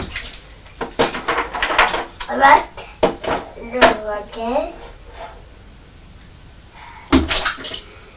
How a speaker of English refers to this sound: Splash, splash, splash. You are making a lot of splashes, aren't you? Splash, splash, splash, splash.